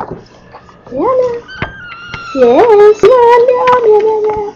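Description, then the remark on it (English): Sharp thumps and clicks of Brownie, a cat, walking on a tape recorder, scattered irregularly, mixed with drawn-out meows that swell into a longer, louder cry. “He likes the tape recorder. Oh, he's walking on it.”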